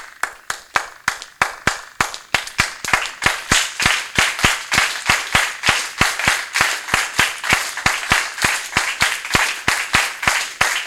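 Steady, rhythmic hand clapping from several people practising a clap used on some songs, sharp, keeping an even beat that gradually quickens and grows denser over about eleven seconds, with no talking.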